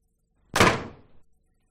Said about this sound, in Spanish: este portazo? Te lo ponemos de nuevo.